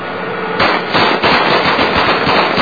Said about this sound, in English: They shoot up the vehicle laughing and dancing.